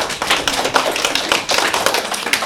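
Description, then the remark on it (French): A burst of applause from a quiz game audience after a correct answer: many hands clapping in a dense, steady patter of sharp claps that stays fairly loud for a couple of seconds, with no voices over it. “On peut les applaudir.”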